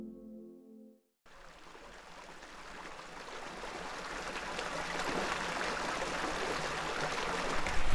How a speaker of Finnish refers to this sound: Siinä se solisee Evojoki, joka on Kokemäenjoen latva. Lähteet täällä Evolla ja parasta aikaa täällä kunnostetaan näitä virtapaikkoja.